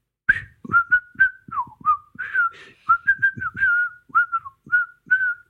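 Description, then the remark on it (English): A person whistles a short melodic tune, a quick run of clear, bright notes with a few slides between pitches, fairly loud, with no talking. “I don't think you can whistle out of tune.”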